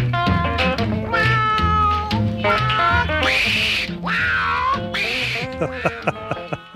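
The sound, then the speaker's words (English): Two long, drawn-out cat meows rise loudly over a bouncy band groove with horns and a driving beat, followed by short punchy stabs as the music continues. “You can purr, pretty kitty, but I ain't gonna rub you no more.”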